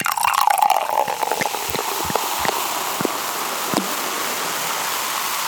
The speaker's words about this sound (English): Let me pour another glass. Let's get some more wine, please. Okay.